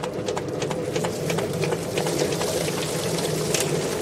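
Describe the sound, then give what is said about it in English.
A poultry picker machine plucks freshly scalded birds, running steadily, its low motor drone overlaid with rapid, irregular thumps and slaps as birds tumble inside, along with some splashing water, fairly loud. “So now we're going to put them in the picker.”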